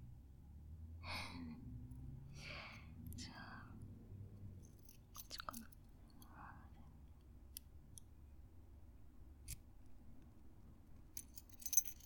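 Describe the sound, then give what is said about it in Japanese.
Faint breathy whispers give way to small metallic clicks and light key jingles as a key unlocks something a person has been wearing, quiet, with a few sharp ticks scattered over a soft background hiss. “鍵、この鍵ずっと欲しかったんだ。”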